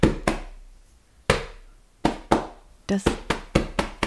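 A rhythm knocked out with fingers: about a dozen sharp, resonant knocks, a quick pair, a pause, more spaced hits, then a faster run of knocks at the end, with no voices.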